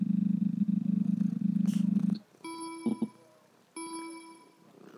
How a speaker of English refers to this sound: That sounds like you're purring.